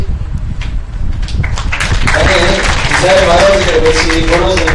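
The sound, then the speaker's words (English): An audience at a Krishna temple gathering breaks into steady applause, a dense, loud patter of many hands clapping that holds throughout, with a voice speaking over it in the second half. “You're clapping too soon.”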